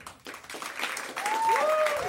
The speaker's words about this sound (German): Euer Applaus